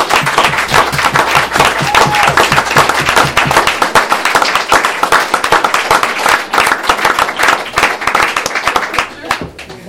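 An audience applauds steadily for about ten seconds, many hands clapping in a dense, crackling wash that stays loud before easing off slightly at the very end.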